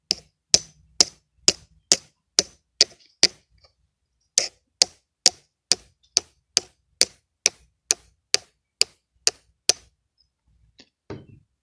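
ASMR-style tapping on glass: a steady run of crisp, bright taps at an even pace, pausing briefly midway, then resuming before a few faint final taps. No voices.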